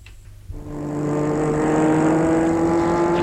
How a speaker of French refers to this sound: Puis, dans la nuit, très tard, il prend sa voiture pour aller à Charbonnières